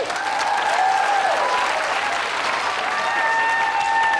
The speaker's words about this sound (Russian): Судя по вашим бурным и продолжительным аплодисментам, в зале люди с высшим образованием.